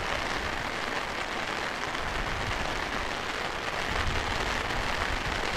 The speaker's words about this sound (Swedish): Det känns som att det kommer avta regnet här nu alldeles strax. Vi får se. Nej, nu ökar det istället.